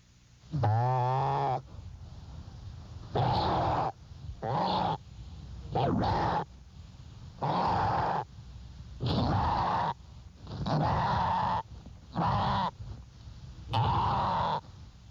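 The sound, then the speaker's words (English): A traumatized six-month-old deer fawn's distress bleat, loud, in a deeper voice, repeated about nine times in harsh, strained cries roughly a second apart, the first one rising and more tonal than the rest. “The next sound is a 6-month-old fawn being traumatized.”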